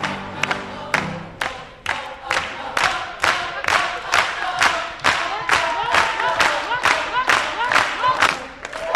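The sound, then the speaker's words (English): At the end of a gospel song performance, families and friends on their feet clap together in a steady, loud rhythm, roughly twice a second, while many voices sing and cheer along with the MAC scholars in celebration of Mandela. “At the end of the performance, families and friends are on their feet, clapping and singing along with the MAC scholars in celebration of Mandela, and maybe of themselves, too.”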